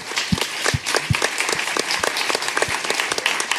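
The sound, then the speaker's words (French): A crowd applauds Fibre Tigre steadily, dense overlapping claps filling the whole moment at a moderate level, with a few sharper individual claps standing out. “Maintenant, on peut applaudir Fibre Tigre.”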